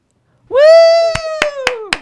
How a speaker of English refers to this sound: You're the only one clapping.